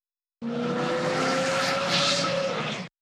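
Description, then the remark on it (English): A car speeds past at high speed down a street on a rainy day, its engine roaring loudly for a couple of seconds with a steady whine that dips slightly as it goes by. No voices. “A car drives by very fast.”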